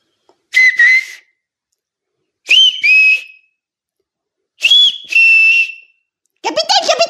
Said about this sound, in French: Dans cette traversée soudaine, il entendit siffler non loin de là.